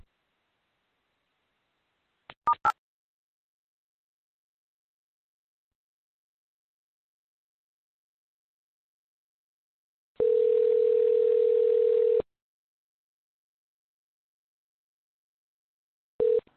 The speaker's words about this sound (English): During the silent transfer, you may hear beeps. Please stay on the line as your call is transferred to the next available VCL responder.